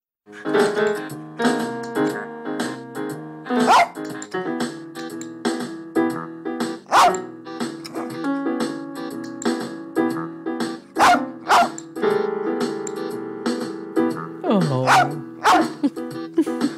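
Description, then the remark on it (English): A rat terrier, Lolabelle, from the film Heart of the Dog, barks in sharp, irregular bursts while playing rhythms on keyboards over a steady, melodic backing track, the yaps loud, punctuating the music throughout. “That is your dog, Lolabelle, your late rat terrier, Lolabelle, from Heart of the Dog.”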